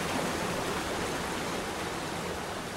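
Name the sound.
rain beginning to fall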